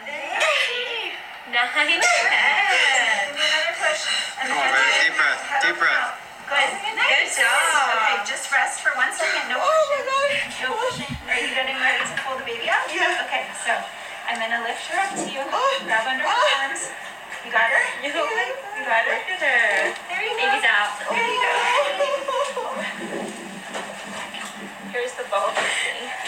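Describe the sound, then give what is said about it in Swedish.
A woman cries loudly and continuously just after giving birth, with wavering, sobbing wails that rise and fall, intense, with other voices mingling in the background. “Alltså då gråter jag så mycket. Alltså högt, du vet. Ful gråt liksom.”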